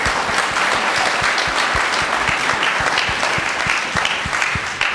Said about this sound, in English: Let's give her a round of applause for sharing that story.